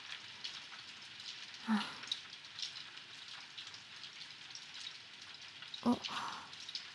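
rain falling

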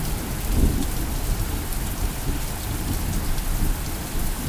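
heavy downpour of rain

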